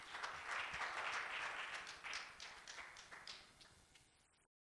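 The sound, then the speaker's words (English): An audience claps after a prayer before being seated, a dense patter of many hands clapping at once that stays steady and then gradually thins and fades out over a few seconds. “If you clap your hands, you may be seated.”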